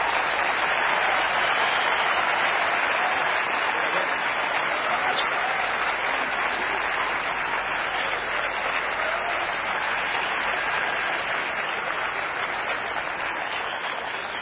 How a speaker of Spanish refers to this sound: Fuerte ese aplauso para recibir a …. Fuerte ese aplauso para él.